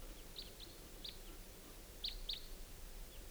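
Several short, high-pitched calls from two birds ring out at irregular intervals at about 5:30 p.m., with two louder chirps close together near the end, over a faint steady background hiss and no talking.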